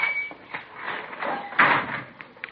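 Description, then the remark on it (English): A sticking door grinds and scrapes as it is shoved open, with a thin squeal at first, a loud harsh scrape partway through, then a couple of short knocks. “Oh, yeah, got to shove that door hard. Sticks a little.”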